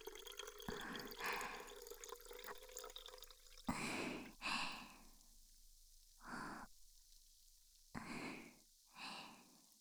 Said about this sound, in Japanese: ではでは、ポカリのペットボトルに注ぎます。よいしょ。